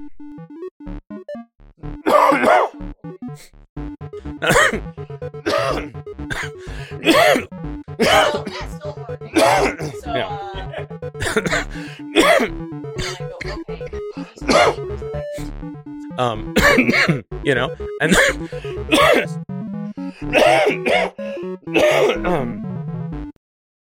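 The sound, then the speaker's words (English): A person coughs and clears their throat over and over, a long run of harsh bursts with brief gaps between them and no talking. “I can do some coughing.”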